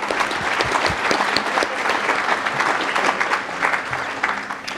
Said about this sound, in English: One thing that's important to know is we're able to keep our dues at a pretty low level because of people who sponsor these talks. So if we could give a round of applause for the sponsors, that would be great.